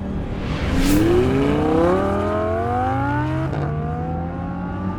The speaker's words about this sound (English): Paul Snyder punched the accelerator and his black Datsun 240Z roared to life. He swung into the left turn lane to pass a slow-moving sedan.